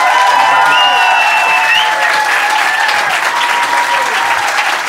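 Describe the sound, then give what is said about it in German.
Loud, steady applause from an audience fills the whole stretch, a dense patter of many hands clapping with a few high whistles cutting through near the start. “Best Applaus, gib Gas!”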